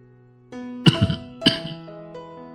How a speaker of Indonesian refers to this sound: Penyakit batuk bengeknya yang baru sembuh 2 bulan lalu, kini kambuh lagi. Berguncang-guncang tubuh tuanya diserbu batuk-batuk hebat serta geraman yang berasal dari tenggorokannya.